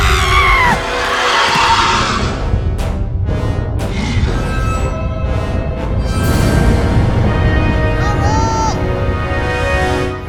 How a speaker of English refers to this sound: What's with all the girly yelling?